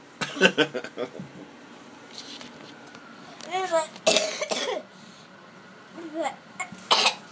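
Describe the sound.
Repeated harsh coughs come in bursts, a close cluster at the start, more later, mixed with throat clearing and a few voiced sounds between them, fairly close and moderately loud.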